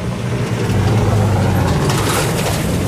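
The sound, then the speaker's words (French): A car drives past where someone has stopped below hills of brown, burnt grass, its engine rumble and tyre noise loud and steady for the whole few seconds, with a brighter road hiss swelling briefly midway. No one speaks. “C'est que dans cette région, on va laisser passer cette voiture.”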